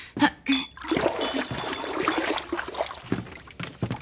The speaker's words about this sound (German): befeuchte deine Finger etwas in der Wasserschale.